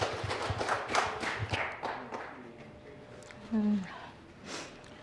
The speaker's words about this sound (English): Please could you give her a warm round of applause?